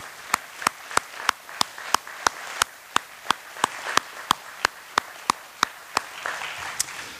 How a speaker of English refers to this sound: She really deserves a round of applause.